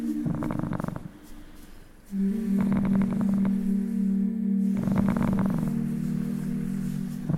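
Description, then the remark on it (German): A cat purrs, a steady low rumble that swells and eases with each breath, dipping briefly quieter early on before settling into a loud, continuous purr. “Und was man auch immer wieder hört, ist, dass Schnurren heilende Wirkung hat.”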